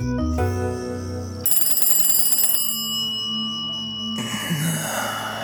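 An old-fashioned telephone bell rings in a house on Beacon Hill, Boston, at 12:27 a.m. on 13 July 1907, in one loud, rapid rattling burst lasting about a second, set against sustained musical tones with no one speaking.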